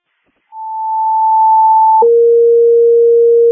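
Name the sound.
radio dispatch alert tone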